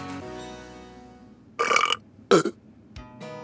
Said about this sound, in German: Platz 20 bei Comedy-Podcast durch zweimal aufstoßen.